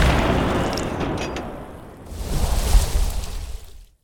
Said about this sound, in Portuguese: Dois tiros do velho canhão atingiram o navio e os portugueses se renderam.